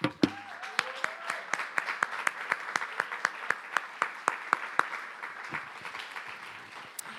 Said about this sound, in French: Mais avant ça, j'aimerais qu'on applaudisse ces équipes.